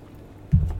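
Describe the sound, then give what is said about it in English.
A single quick sip of vintage seltzer water, heard as a low, muffled gulp after a brief stretch of quiet room tone, with no talking. “Excuse me while I sip on my vintage seltzer water.”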